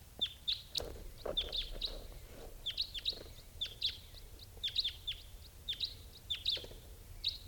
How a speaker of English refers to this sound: Sounds like a type 4 bird coming in now at 9:02 a.m.